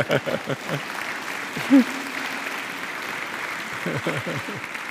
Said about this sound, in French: Amen. Applaudissez cela.